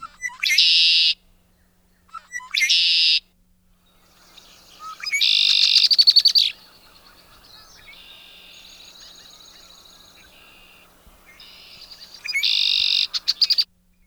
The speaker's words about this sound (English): Another iconic call is the red-winged blackbird. If you're by a marsh or something like that, you will almost always see one of these fellas on a reed. So let's give a listen to the Conquerida, the classic red-winged blackbird song.